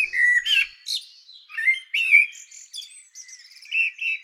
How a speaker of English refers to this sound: What have we got here? Blackbird. Perfect.